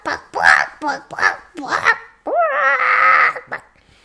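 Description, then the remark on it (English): A person imitates a chicken with a quick run of clucking bursts, then stretches into a long, loud, drawn-out squawk before one last short cluck. “Hold on, I'll do a good chicken impression here.”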